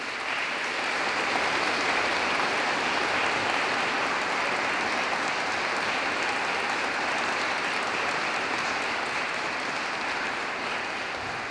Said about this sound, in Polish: Moi drodzy, zakończyliśmy teraz ten piękny koncert wykonany przez młodzież, zarówno tutaj z Gniewczyny Łańcuckiej, zespołu szkół, czy także orkiestra nam towarzyszy z gminy Tryńcza. Może nagródźmy wszystkich tutaj wykonawców oklaskami wielkimi.